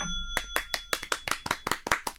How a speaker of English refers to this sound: I've got to, but there's only two people in the studio. So the fact that we can hear two sets of clapping makes you seem really arrogant.